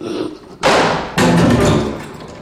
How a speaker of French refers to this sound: À peine fut-il dans sa chambre que la porte s'en trouva poussée, verrouillée et fermée à double tour. Le vacarme fut si subit qu'il en plia sur ses pattes.